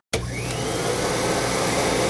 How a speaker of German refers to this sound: Lösung A ist richtig. Das Geräusch bei Jim im Zimmer hat sich nach einem Staubsauger angehört.